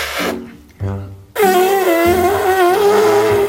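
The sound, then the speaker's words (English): Someone imitates a fart with their mouth: a loud, drawn-out buzzing blast lasting about two seconds, with a wavering pitch. It follows a brief stretch of low, muffled voices. “A fart is funny because of the sound.”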